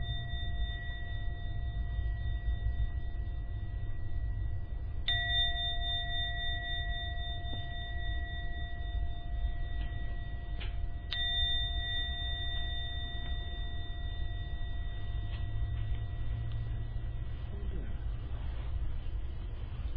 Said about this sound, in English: For now, ring the gong 3 times. When the last sound from the gong disappears, it's time to come out from your meditation.